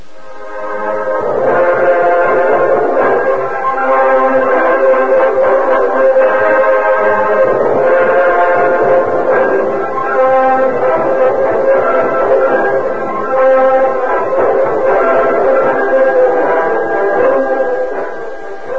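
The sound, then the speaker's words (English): A loud, sustained multi-tone train whistle blares almost continuously for nearly twenty seconds, its chord wavering slightly as a train pulls away; no one speaks. “When the Lone Ranger, Tonto, and Pete Morgan reached the station platform, the train had disappeared into the darkness.”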